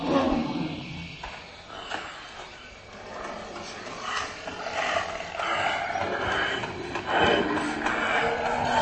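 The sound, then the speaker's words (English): A reconstructed mammoth roar, made by experts from the National Museum in Prague to suggest how the animal might have sounded, rises and swells in long, throaty bursts, loud, with a harsh growling texture and no voices, at the Mammoth Hunters (Lovci mamutů) exhibition in Prague. “What you've just heard is the roar of a mammoth, or at least what experts from the National Museum in Prague think the giant animal might have sounded like.”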